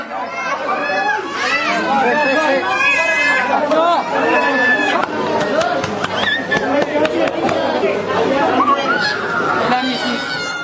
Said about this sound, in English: The scene we're about to hear is dozens of crying children being hosed down in a local clinic